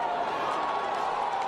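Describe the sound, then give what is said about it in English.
A gathered crowd of onlookers cheers a rescue from a collapsed three-story building in a steady, sustained roar of many voices, blended together and holding at an even level throughout the brief moment. “As you can hear, the crowd that had gathered cheered the rescue.”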